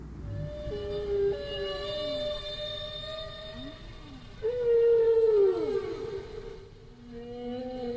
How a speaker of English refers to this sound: They also do strange things like doing ABA form, where they make a statement. Now that's one phrase, and the whale repeats its phrase and sort of yodels the second time. Here, I'll show you what I mean.